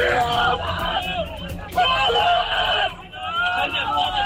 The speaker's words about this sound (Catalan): Crits de desesperació d'altres periodistes quan han descobert que l'atac israelià havia matat al-Sharif, una de les poques veus que encara queden a Gaza per explicar què hi està passant.